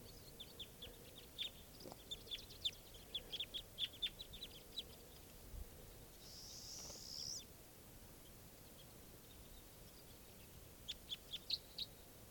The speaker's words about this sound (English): So recording at 11:28, and a very large flock of crossbills just arrived, and they're sitting in the trees here above where I used to have nets set up. And flocks mostly type 2 birds. These are wild birds.